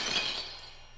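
A pane of window glass shatters in one bright, crashing burst, the sharp tinkling shards ringing out and fading over about a second, with no voices present.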